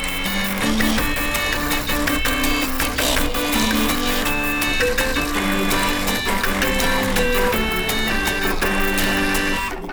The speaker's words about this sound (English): It's an extraordinary orchestra of old office technology. So imagine printers and dot matrix printers and scanners and all the sort of technology of yesteryear all coming together to pay homage to this next generation Brother printer.